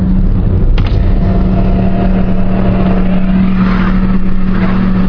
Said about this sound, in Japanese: それはですね、あのクレーン車なんですよね。そんなに大型じゃないんですけどね、黄色と黒のツートンカラーのその重機なんですよね。それが一生懸命走ってるんですけどね、ものすごい大きな音を立ててるんですよ。